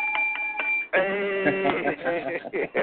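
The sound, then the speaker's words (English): A bell sound effect rings with bright sustained tones and a few quick repeated strikes, then voices take over and sound along with it for the rest. “See, man, let me hit the ghetto bell”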